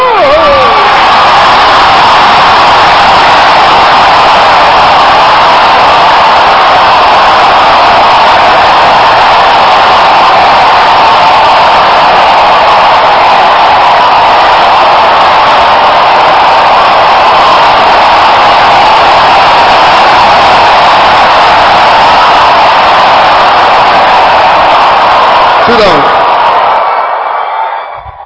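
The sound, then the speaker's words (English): An audience shouting together in one loud, sustained roar of many voices that holds steady for nearly half a minute before cutting off abruptly. “So, what did they do in 15? They were shouting.”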